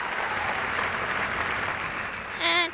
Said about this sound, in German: Alle Zuschauer waren von Haydns Sinfonie hingerissen. Und als die letzten Töne erklangen, brauste gewaltiger Beifall auf.